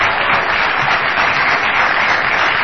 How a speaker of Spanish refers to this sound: Vamos a aplaudir también a Jorge Dorio, que no se encuentra aquí.